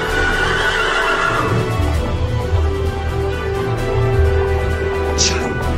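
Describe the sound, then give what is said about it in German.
A horse whinnies loudly, then hooves clatter in a fast, steady gallop amid a busy, noisy background. “Das Pferd schon.”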